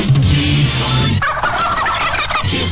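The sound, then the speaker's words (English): A turkey gobbles loudly and close up, a rapid burbling rattle that runs for a couple of seconds with no talking over it. “If you call us in time, we'll put a turkey on your Thanksgiving table.”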